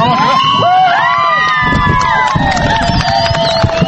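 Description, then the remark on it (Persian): Fans of the Afghanistan women's national football team roar and cheer after the team's first goal, scored in the 20th minute of a friendly match against a NATO forces women's team in Kabul. High excited shouts and whistling voices rise over a dense crowd babble, loud and continuous throughout. “این صدای خوشی و تشویق هواداران تیم ملی دختران افغانستان است که این تیم توانست در دقیقه 20 میدان اول نخستین گل را به ثمر برساند.”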